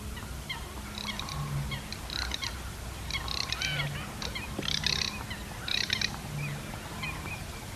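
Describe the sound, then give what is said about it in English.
A garganey duck (Spatula querquedula), a small dabbling duck, gives a dry, creaky rattling call, repeated in about six short bursts at a steady rhythm, over a faint low background hum. “Sounds like one of those wood things. Yes. the wood frogs, and you put the stick over them. Okay. Yes. Yeah, the Gargany Spatula Quercuadula.”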